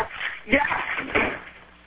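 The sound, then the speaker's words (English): Muffled rattling and knocking at the front door of a house, as if someone is working the handle, with two sharper jolts about half a second apart, heard over the thin, phone-like line of a 911 emergency call amid faint background murmur. “You hear somebody trying to open the front door?”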